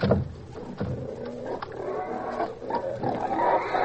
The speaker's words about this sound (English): Pour out the slop for those pigs